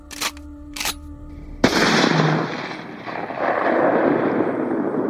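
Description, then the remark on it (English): A loud shotgun blast, fired through the doors of the Heinel Mausoleum at Highland Lawn and damaging the mausoleum and its dog statue, bursts out with a sharp crack and a long, rumbling roar that lingers, preceded by two brief clicks like a gun being readied. No one speaks. “Unfortunately, someone did not respect other people's property, and at one point the mausoleum and the dog were damaged with a shotgun blast through the doors.”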